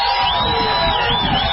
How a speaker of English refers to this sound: This crowd coming to their feet.